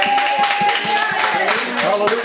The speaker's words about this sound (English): As we close out with a hand clap and a shout of praise.